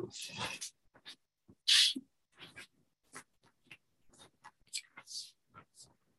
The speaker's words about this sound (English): I need to make myself a note about this before it leaves my mind.